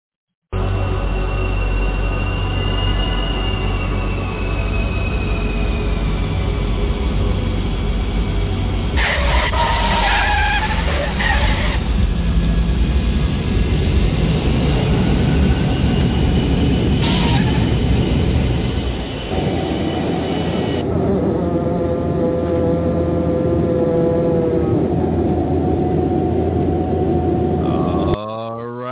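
airplane landing

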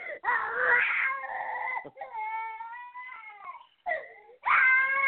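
child crying

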